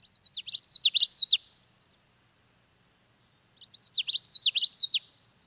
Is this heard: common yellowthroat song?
yes